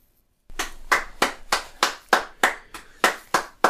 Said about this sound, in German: Puh, ich klatsch wirklich nicht oft am Ende einer Folge, aber wie du die letzten 3 Minuten gestaltet hast, richtig, richtig, richtig schlecht.